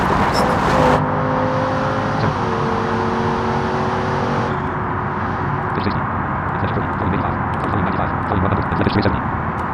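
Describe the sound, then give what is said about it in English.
A powerful turbocharged car engine roars loudly and steadily, its pitch climbing in stages as it accelerates hard from 100 to 150 miles per hour with 18.1 psi of turbo boost, with a constant rushing whine over the deep drone. “100 miles per hour. Command. Turbo 18.1 psi. 150 miles per hour.”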